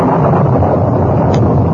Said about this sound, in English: By the time they reached the horses, wind began to blow strongly and lightning crackled around them.